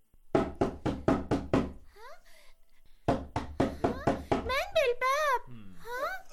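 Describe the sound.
A quick series of loud knocks on a house door, five or six sharp raps, repeated twice, with a child's voice calling out between and after the knocking bursts as someone asks for the door to be opened quickly.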